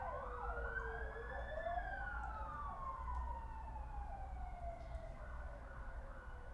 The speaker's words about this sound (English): So there's quite a lot of siren noise going on at the moment.